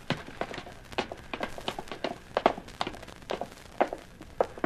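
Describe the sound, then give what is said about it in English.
Several sets of footsteps thump up stairs in an uneven, overlapping rhythm, with dull thuds and scuffs spread across nearly five seconds; no one speaks. “Up the steps, killer.”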